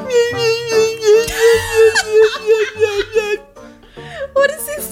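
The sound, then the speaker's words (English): A voice imitates a mosquito's whine, holding a steady, nasal, wavering hum for about three seconds, then breaking into short choppy vocal sounds that resemble giggling. “I heard a mosquito in my house yesterday, left the door open. It sounded like...”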